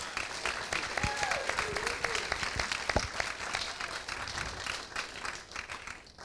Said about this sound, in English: And we are thrilled with their support of AIR, and please give Alamo Drafthouse a round of applause.